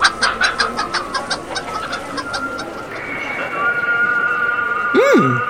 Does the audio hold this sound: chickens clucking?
yes